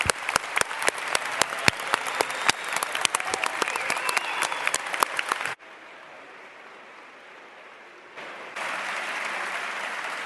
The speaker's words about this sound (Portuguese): Quero um forte aplauso para toda a mesa, principalmente para a Presidente, que apesar de tantas situações que saíram do protocolo habitual, ela teve um pulso enorme.